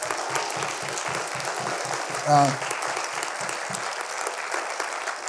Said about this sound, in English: Everybody give her a big hand clap.